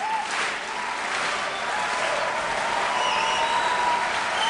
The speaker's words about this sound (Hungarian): Kedves hallgatóink, Johann Sebastian Bach H-moll miséjének tapsol a Zeneakadémia zsúfolásig telt nagy terme.